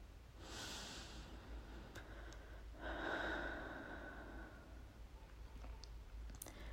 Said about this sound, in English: The excitement and the thrill is actually making me shiver a little. And I just realized that my breathing pattern has changed. Maybe you can hear it too.